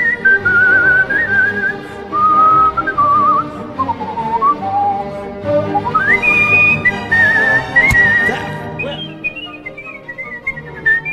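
Skilled, agile professional melodic whistling of the Hungarian Dance by a four-time world champion whistler, a lively, sweeping melody with quick runs and leaps to high notes, loud, over a steady instrumental accompaniment, with no talking.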